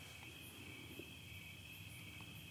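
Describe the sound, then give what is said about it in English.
Crickets chirp in a steady, continuous trill in the background, faint and unbroken against a quiet outdoor low rumble, with no voices present. “The sound of the crickets in the background, that's pleasant.”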